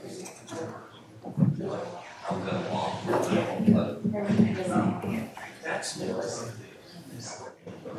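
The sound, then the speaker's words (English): Audience members shuffle into a room, with footsteps, rustling and a door moving under a steady murmur of overlapping voices, the bustle continuing throughout. “You know, an audience would be nice. There's some coming in, so.”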